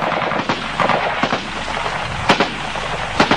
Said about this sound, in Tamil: துணிந்து நின்று தான் வைத்திருந்த G3 துப்பாக்கியால் இராணுவ கவச வாகனத்தை நோக்கி சுடுகின்றார்.